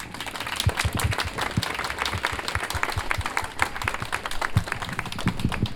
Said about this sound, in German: Einmal einen Applaus.